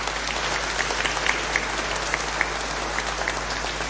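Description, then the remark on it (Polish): A crowd claps steadily in a dense, sustained wash of applause, with no one speaking over it, welcoming guests from the parish of St. Peter the Apostle and the Basilica of the Presentation in Wadowice, at the Sanctuary of Our Lady in Rychwałd. A few sharper claps stand out here and there within the continuous noise. “Także dla nich gorące brawa.”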